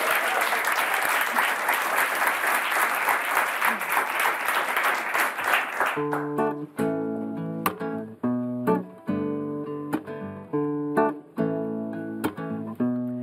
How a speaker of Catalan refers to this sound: Un aplaudiment